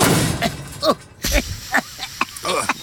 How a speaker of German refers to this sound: Okay, der Prototyp explodiert, aber stilvoll.